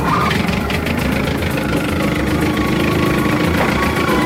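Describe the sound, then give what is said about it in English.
The motor of a small flat-bottom John boat is started up and runs steadily in a Louisiana swamp, a loud, continuous low rumble with a rapid chugging texture that holds at an even level throughout, with no voices. “I can hear him starting up that flat-bottom John boat.”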